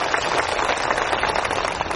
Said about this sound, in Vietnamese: Do vậy, xin một tràng pháo tay lớn hơn được không?